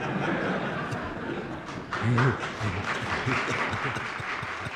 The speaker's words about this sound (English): And the Senate room erupts in applause.